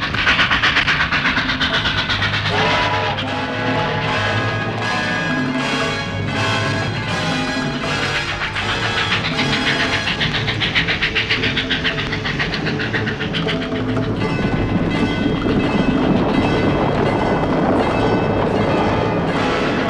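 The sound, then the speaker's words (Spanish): A steam train runs along the rails, loud, its rhythmic chugging and rumble continuing throughout, growing rougher and noisier in the final seconds. “¡El ferrocarril!”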